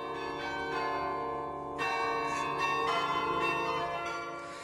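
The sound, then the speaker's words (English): A carillon of bells plays a slow tune, the interval signal of a shortwave radio station, played for its last broadcast. Each struck note rings with long overlapping resonance, clear, with no voices present. “It's Merk Toch Hoesterk, our interval signal that would announce Radio Netherlands' arrival to the shortwaves”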